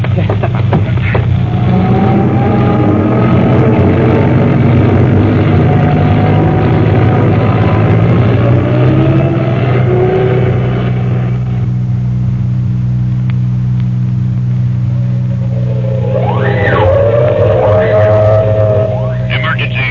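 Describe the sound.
A milk truck's engine rumbles loudly and steadily, then its tone shifts as the truck pulls away, with indistinct voices and a few rising squeals over the low drone.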